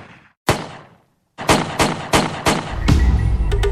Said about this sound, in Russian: Сухие щелчки выстрелов прозвучали внезапно.